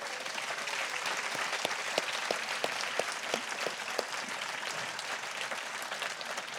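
A crowd applauds steadily for several seconds, a dense wash of overlapping claps with a few sharper individual claps standing out, holding an even level throughout with no voices.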